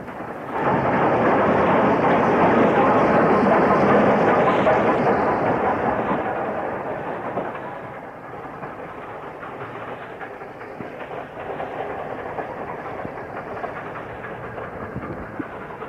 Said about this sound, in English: The following evening at 6:28 PM on 23rd November 1966, Class B1460, number 61278, passes through Cooper Station. It's travelling light engine pushing a single brake fan from Dundee to Thornton.